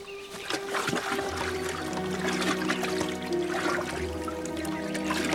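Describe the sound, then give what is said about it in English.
Water sloshing and splashing steadily as Tuck wades slowly through a river in a forest toward Robin's body, fairly loud, with sustained musical tones running underneath. “Tuck appears and steps into the water.”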